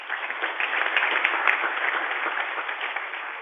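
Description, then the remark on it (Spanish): An audience applauds the director of Sisbita de Socancipá steadily, a dense, even wash of many hands clapping with no voices over it, holding at a fairly constant level throughout. “Hay que hacerle llegar un aplauso.”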